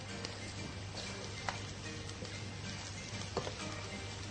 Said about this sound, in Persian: و حالا شروع می‌کنیم گوشت و پیاز رو با ادویه سرخ کردن.